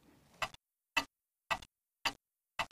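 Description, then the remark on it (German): A large pendulum clock ticks steadily in a silent room, five crisp, evenly spaced ticks about half a second apart, clear. “Nur das Ticken der großen Pendeluhr war zu hören.”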